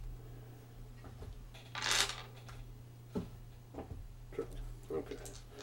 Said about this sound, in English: Six dice, yeah. Ooh, that's not a good roll.